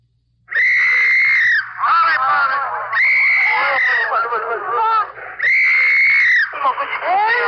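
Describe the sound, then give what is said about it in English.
A dense, loud chorus of wailing and screaming voices with high-pitched crying of infants cutting through, rising in three long surges that overlap and barely pause, chaotic; refugees during the fall of Seoul, Korea. “Your ear is tuned to Korea and the fall of a city, to the dissonant sounds of an MP's whistle and sobbing infants.”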